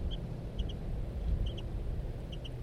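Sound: two birds calling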